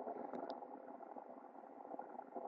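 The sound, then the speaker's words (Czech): Water churns and bubbles steadily as it heats toward a boil, a dense continuous rumble with a couple of faint higher clicks near the start. No one speaks. “Takže uděláme pokus, že to zastavíme v této teplotě.”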